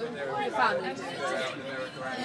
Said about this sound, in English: I'm on the train to London Bridge. I'm just pulling in now. But it's really noisy on the train this morning. Obviously, it's the school holidays. Listen.